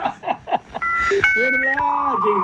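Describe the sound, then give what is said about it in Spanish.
A voice imitates a dial-up modem connecting to the internet: a few quick chirpy bleeps, then sustained, shifting electronic-style tones held fairly loud for a couple of seconds. “Así nos conectamos a internet.”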